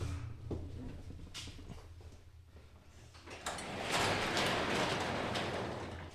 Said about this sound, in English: Hold on a second. Oh, someone's here. Trying to break into the door. Hold on.